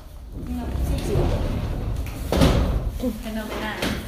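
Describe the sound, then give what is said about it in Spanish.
A door opens with a single sharp, fairly loud clunk partway through, while people talk quietly before and after it. “¿Toma la puerta y encender la luz?”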